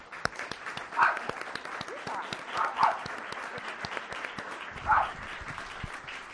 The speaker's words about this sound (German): An euch alle danke. Erstmal einen warmen Applaus.